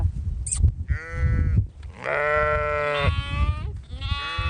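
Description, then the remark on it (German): A flock of small, hungry lambs on a meadow, waiting to be bottle-fed, bleat loudly, their quavering calls overlapping in a steady chorus over a low rumble of outdoor background noise. “Eine Herde kleiner, hungriger Schafe wartet schon auf der Wiese darauf,”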